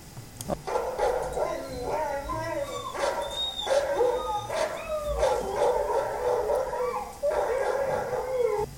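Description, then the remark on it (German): Several sled huskies howl together in wavering, overlapping tones, broken by sharp barks throughout, as they set off with a sled. The chorus stays loud and steady for the whole stretch. “Ich mache mich mit den Huskies und dem Schlitten auf den Weg.”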